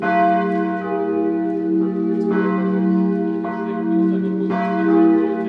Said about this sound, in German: Einst schwangen sie hoch oben im Turm der Versöhnungskirche. Jetzt läuten die geretteten Glocken mitten auf dem ehemaligen Todesstreifen in einem Holzgerüst.